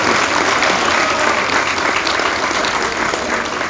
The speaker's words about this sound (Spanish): Un aplauso a Israel, un buen ciudadano, un hombre ejemplar.